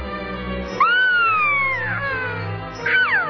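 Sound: cat meowing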